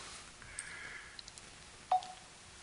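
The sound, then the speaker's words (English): A few quick electronic beeps from cell phone buttons being pressed, small tones, ending in one slightly louder beep, with no talking. “Cell phones are a curse, I'm sure. I'll just take care of this right now.”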